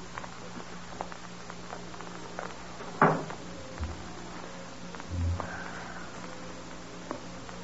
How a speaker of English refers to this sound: Oh, you'd better close the door, hadn't you? Yeah, Doc. Guess I'd better.